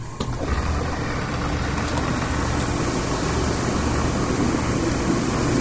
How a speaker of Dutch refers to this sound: Ja, dit maakt het dan echt een bubbelbad, hè? En het was het gewoon een hot tub, hè? Nu is het een bubble bath.